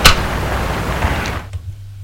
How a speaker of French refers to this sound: Va rentrer dans une de ces maisons d'un étage, en poussant la porte de bois.